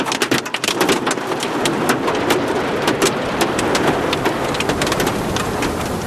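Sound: hailstorm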